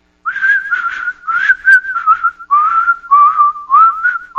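A person whistles a slow, eerie thriller-style melody up close, clear and fairly loud, in several connected phrases with brief pauses, no other sounds or voices.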